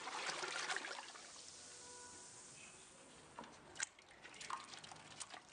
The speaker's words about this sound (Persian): در گوشه ی شهر نیز کارگاهی آماده می شود برای شیرین کردن کام مردم در عید نوروز و همچنین مسافران نوروزی. در پاتیل ابتدا مقداری آب و سپس به همان مقدار گلاب.